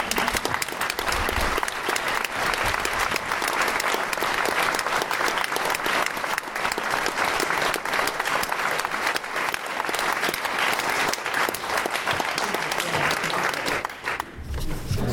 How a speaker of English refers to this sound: So I'd like a massive round of applause.